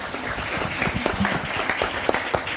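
A short burst of applause from a small group, dense irregular clapping with a few sharper claps standing out, steady and moderately loud for a couple of seconds.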